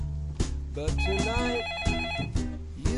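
A telephone rings with a warbling electronic trill, clear, accompanied by a few sharp knocks and clicks around it.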